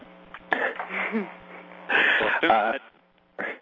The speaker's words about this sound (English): Let me say first that I'm having a very bad allergy day, so I'm going to have to clear my throat a lot.